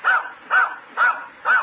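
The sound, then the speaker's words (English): The dog Roger barks four times in answer to the question how much is two and two, in a steady, evenly spaced rhythm, each bark short and clear, moderately loud, with no talking over it. “Claire's dog is very intelligent. He certainly is, and I'll prove it to you.”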